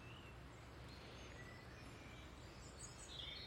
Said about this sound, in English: It's lovely here this morning with all the birds song. Looking over the Clyde, here, albeit the grey Clyde and the grey horizon.